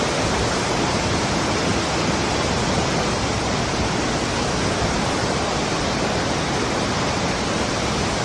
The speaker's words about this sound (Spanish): hay algo que quien ha estado ahí no olvida nunca, es su famosa cascada, que brota desde una cueva en la roca, especialmente durante el reventón, que llaman, cuando el agua surge con una fuerza descomunal, tras lluvias abundantes como la de este año.